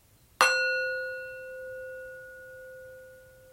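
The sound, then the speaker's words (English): A single meditation bell is struck once at the start of a Plum Village-style meditation. Its clear, bright tone rings out and slowly fades over several seconds, with no talking. “I'll start the meditation with three bells, and I'll end it with two.”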